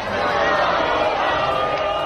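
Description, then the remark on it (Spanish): A large crowd celebrating Villarreal's win in the final in the streets of Villarreal, a dense, steady roar of many voices cheering and shouting together, loud and continuous without a break. “Escucha, porque este es el sonido ambiente de la celebración que en estos momentos todavía se lleva a cabo por las calles de Villarreal.”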